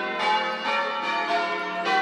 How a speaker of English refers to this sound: I think we can just stand out here for a little bit and listen to the bells together.